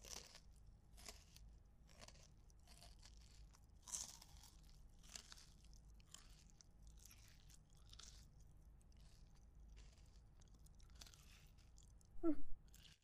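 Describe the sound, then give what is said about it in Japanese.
Hard, crunchy food being chewed: a steady series of crisp, crackly crunches in an irregular rhythm, fairly quiet, with a short louder squeaky sound near the end. “なんか硬いけどうまいにゃ。”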